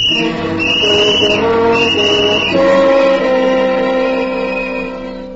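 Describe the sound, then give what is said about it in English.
A boy blows a whistle in a loud, shrill, continuous blast lasting several seconds, its tone wavering and then dropping to a lower, steadier pitch partway through. No voices are heard. “It wasn't long before my father began to regret that I had been given a whistle.”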